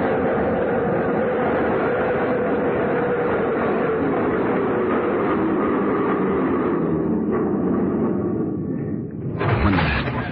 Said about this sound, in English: Train stopped, he went in through the center door.